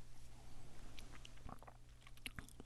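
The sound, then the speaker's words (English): Someone sips a chilled cocktail with a lemon peel garnish, making soft wet mouth clicks and small swallowing sounds over a low, steady background hum, with no talking. “Now it's time to take a sip.”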